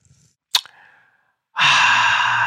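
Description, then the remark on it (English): A quick sip from a glass of water stirred with a sugar-free white peach drink stick, a short sharp sound with a brief ringing tail, then a loud, breathy, satisfied exhale that carries on for about a second. No one speaks. “And let me take a sip for y'all.”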